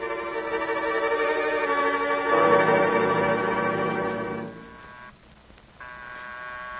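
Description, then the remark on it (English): A bell, rung by Miss Maggie to summon someone, rings insistently, its bright metallic tone sustained and ringing out with no one speaking, swelling midway before cutting off briefly and resuming near the end. “That's Miss Maggie ringing.”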